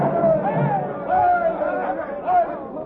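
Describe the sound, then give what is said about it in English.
A dense crowd murmurs and chatters continuously, many overlapping voices blending into a steady, fairly loud hubbub with occasional swells, as people pour over a town square during the Boston Massacre. “He's down, but the people still pour over the square.”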